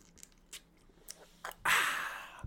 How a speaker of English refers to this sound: I got coffee. I'm getting a little bit of dry mouth because I'm talking so much. Let me take a sip of my coffee real quick.